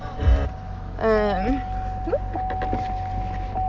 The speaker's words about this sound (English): Okay. Sorry, I hate that beeping noise.